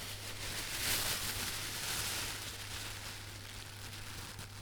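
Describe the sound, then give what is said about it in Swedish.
Soft, irregular crinkling and rustling as a small, well-wrapped bag is unwrapped, fairly quiet, over a steady low hum, with no one talking. “Så nu har jag då en överlämning här av en liten påse med en liten...”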